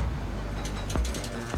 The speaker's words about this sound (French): Il est midi, elle fonce au club de gym et déverrouille le portique sans même le toucher.